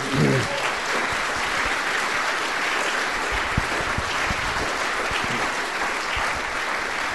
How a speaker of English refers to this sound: And for that, I think, a round of applause for Ian.